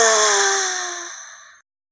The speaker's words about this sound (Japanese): あ！大きいあくびが出ました。